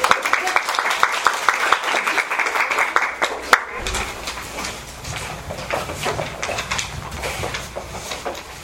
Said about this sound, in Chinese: 演员耶，他拍手。